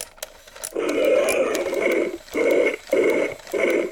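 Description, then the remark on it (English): A small toy motor whirs and grinds in repeated mechanical bursts as the wind-up switch on a large toy figure's left arm is pushed down to wind it, loud, with brief pauses between each winding. “You keep pushing it down, and it winds a motor, and that motor makes the jaw open and close, and causes snake-like fangs to pop out from the top of her mouth.”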